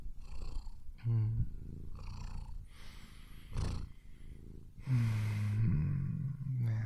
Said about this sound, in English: Yeah. Isn't that relaxing just to listen to him? Listen to him purr, me just prattle on and on and on about meaningless bullshit.